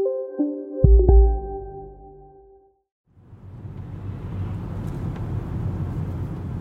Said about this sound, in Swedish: Ja, nu sitter jag i bilen på väg ut mot den här gamla chokladfabriken.